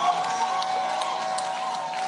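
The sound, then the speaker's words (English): A church audience claps and shouts praise to Jesus in a steady, dense wash of applause and raised voices, sustained and even throughout with no single voice standing out. “Why don't you clap your hands? Give Jesus a shout of praise.”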